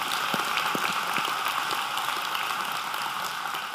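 A crowd claps in a steady, dense round of applause, a continuous wash of many hands with a few sharper individual claps standing out, holding at an even level throughout, with no voices.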